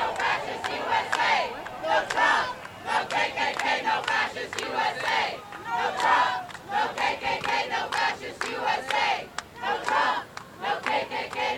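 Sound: protesters shouting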